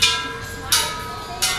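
Three strikes of small metal wishing bells at a Buddhist temple just outside Hong Kong, tapped by visitors at an even, unhurried pace, each bright ringing tone lingering and overlapping the next, with no voices.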